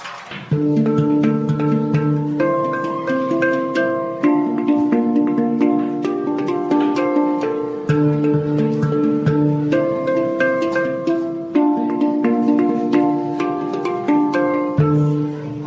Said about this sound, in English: he is standing behind what I would describe as a black UFO. What is this actually called? A hand pan.